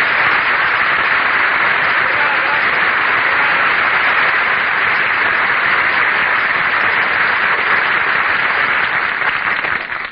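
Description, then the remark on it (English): A crowd of patrons in a New York restaurant breaks into loud, sustained applause after someone greets Douglas Fairbanks, Jr., a dense wash of many hands clapping that holds steady for about ten seconds before easing off at the very end. “You say, well, if it isn't Douglas Fairbanks, Jr., and everybody in the restaurant applauds.”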